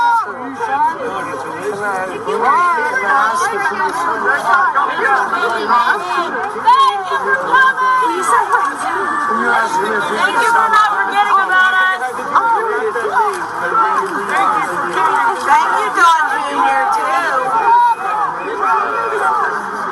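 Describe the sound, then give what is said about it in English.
A dense crowd of many overlapping voices around Donald Trump and reporters chatters and calls out continuously, a steady loud babble with no single speaker standing out for the full twenty seconds. “He wades into the crowd of people, talks to them, talks to the reporters.”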